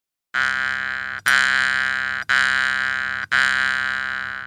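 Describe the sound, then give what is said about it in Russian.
A jaw harp, pressed to the teeth with its tongue plucked, twangs four times in a steady rhythm, each pluck a loud, buzzy drone on one fixed pitch with bright overtones that sustains and slowly fades before the next. No voices. “Когда вы играете на варгане, вот вы сейчас дергали за язычок, он выдает звук одной высоты.”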